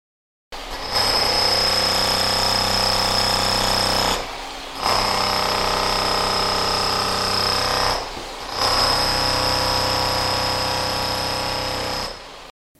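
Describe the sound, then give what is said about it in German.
Loud, continuous machinery noise like a jackhammer or power tool on a construction site, running in three long bursts separated by brief pauses, with a steady high-pitched whine throughout. “Eine Baustelle kann ziemlich laut sein.”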